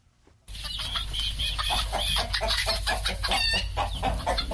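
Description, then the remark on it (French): A dense chorus of chickens clucking continuously on a poultry farm in Santa, near Bamenda in northwest Cameroon, many birds overlapping with a steady low hum underneath. “42 ans, élève des poulets à Santa dans la banlieue de Babenda.”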